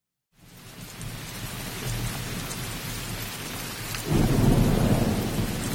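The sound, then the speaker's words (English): A steady downpour of rain hisses throughout, with deep rumbling thunder rolling underneath and swelling louder near the end, like a thunderstorm. “The storm was already here.”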